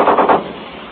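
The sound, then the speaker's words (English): A machine gun fires a rapid burst of three or four loud shots, each a sharp, muffled crack running together before the sound dies away into a low rumble. “Our machine gun just fired from the fast shot. Three or four shots, you probably heard it.”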